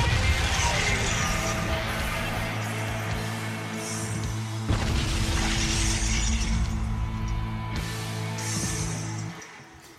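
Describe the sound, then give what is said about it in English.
A loud, chaotic din of screaming, explosions and deep Godzilla roars runs continuously for about nine seconds, with a sharp crash partway through and a low droning rumble underneath before it cuts off. “It was screaming explosions and Godzilla roars.”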